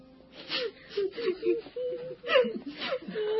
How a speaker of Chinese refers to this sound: 彼得到了约帕，好多可怜的寡妇站在他身边哭，并且拿多加在世的时候为他们做的衣服给他看。